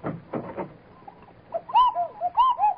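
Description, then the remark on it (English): A doorbell at the Cuckoo Club sounds a cuckoo call: clear, hooting two-note phrases repeated twice, fairly loud, preceded by a few dull thumps. “Well, what was that? Oh, the doorbell.”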